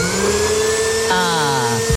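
A vacuum cleaner runs loudly and steadily, a harsh whining motor hum that shifts pitch slightly midway before cutting off abruptly at the end.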